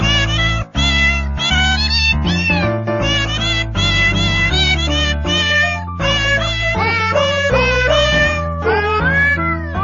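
A string of cat meows is pitched and sequenced into the Jingle Bells melody over a steady bouncing bass and beat, loud and continuous, with no talking.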